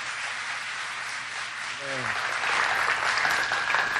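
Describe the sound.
An audience claps steadily throughout to welcome a guest speaker, a dense wash of applause that swells slightly louder in the second half, with a brief voiced shout cutting through midway.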